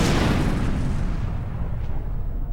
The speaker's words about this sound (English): As I fire one of these necklace of fireballs into the air, and it explodes like a huge firework behind you.